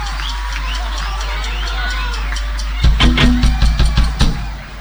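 A large crowd at a live band concert roars, cheers and applauds with steady noise and scattered whistles, then loud rhythmic beats of the next song cut in and pulse steadily over the fading crowd.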